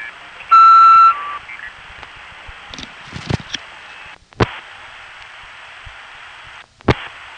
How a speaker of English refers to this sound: Begin your message after you hear the tone and be sure and leave a number where you can be reached. You'll have about 15 seconds in which to record your message.